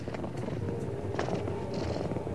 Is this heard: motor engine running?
yes